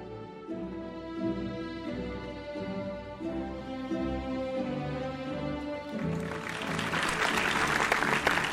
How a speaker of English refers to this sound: Thank you for all your applause. It's really appreciated.